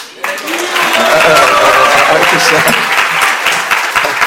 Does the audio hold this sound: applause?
yes